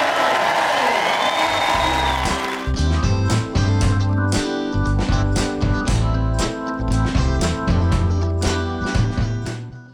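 A crowd claps and cheers loudly for a couple of seconds, welcoming back two favourite guests, then an upbeat music track with a strong, steady beat comes in and carries on to the end.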